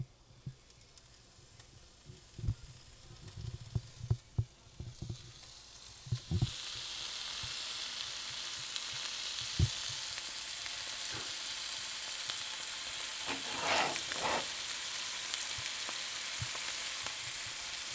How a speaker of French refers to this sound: Non mais moi le bacon, j'aime ça quand ça croustille, quand c'est gras, mais c'est normal en fait. Donc j'aime ça le bruit, le grésillement du bacon sur la poêle, c'est comme sensuel